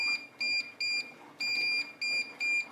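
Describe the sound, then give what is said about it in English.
An appliance control panel beeps a rapid series of about seven high, pure electronic tones, some short and some held longer, loud with no voices, after a button it did not accept was pressed. “I must admit, I pressed a button it didn't like there and it beeped at me.”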